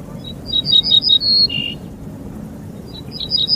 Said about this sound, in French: Cet oiseau que vous entendez là est un bruant ortolan, un petit passereau des campagnes aux faux airs de moineaux, un grand chanteur, l'ortolan, malheureusement moins connu pour ses talents d'artiste que pour sa chair